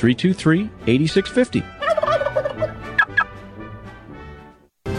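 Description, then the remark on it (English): A flock of turkeys gobbling loudly, several rapid warbling gobbles overlapping in bursts, then fading into quieter clucks before a brief silence. “And so Thanksgiving was saved because Eustace Emery invented the Plymouth Arrow and recaptured the turkeys.”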